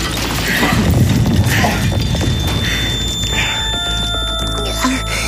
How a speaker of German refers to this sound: Da ist was eingekracht. Es ist explodiert.